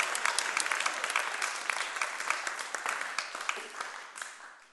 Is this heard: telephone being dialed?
no